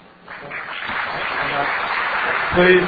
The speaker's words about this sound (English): Please, no clapping. Show your appreciation with your vote.